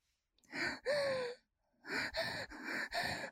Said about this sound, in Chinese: 面对即将来临的高潮，姐姐的动作加大，喘息声越来越急促。